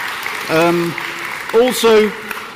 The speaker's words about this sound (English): Pretty much, guys, let's give the kids a round of applause. We love having you in with us.